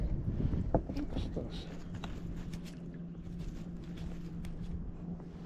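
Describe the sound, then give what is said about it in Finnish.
A motorboat approaches, its engine droning low and steady across the water, a constant hum under wind noise and faint splashing, with soft paddle-like knocks near the start. “Otto moottorivene tulos ja tämä väylä haarautuu tässä nyt.”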